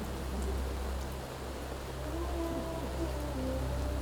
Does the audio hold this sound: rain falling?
yes